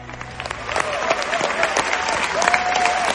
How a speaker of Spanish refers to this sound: Aplausos y más aplausos y así hasta 17 minutos. Oye. 17 minutos de aplausos en la Mostra de Venecia. De momento, el aplauso más largo.